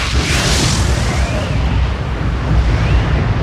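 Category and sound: sound effect, mine gas explosion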